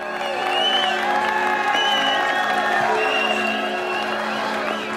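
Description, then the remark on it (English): A crowd of men cheers and whoops appreciatively and steadily for several seconds as two girls in fashionable hats and coats step out into the chill air, a dense wash of voices with scattered shouts rising above it, loud. “The men respond appreciatively.”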